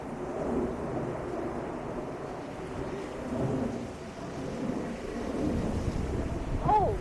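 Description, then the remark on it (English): Strong gusts of wind outdoors buffet the microphone in a continuous, deep, roaring rumble that swells and eases throughout, with a brief high squeak near the end, as someone walks out to get the mail. “Wow, it's windy out here.”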